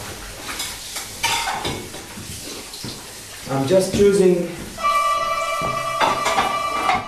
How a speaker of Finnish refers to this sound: Askeettisessa kerrostalohuoneistossa Ounasrinteellä tiskataan ja lakaistaan.